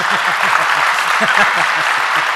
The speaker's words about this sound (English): Can I hear some clapping hands for this, please? Yeah.